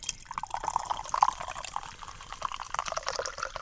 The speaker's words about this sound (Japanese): はい、 このね、氷結開けた時のね、はい、これが氷結。 泡がシュワシュワしてる音が ね、いいんです。